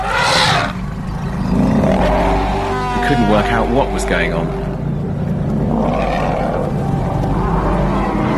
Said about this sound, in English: I remember hearing all the sounds before coming around the corner. It was mayhem. The elephants were so distressed.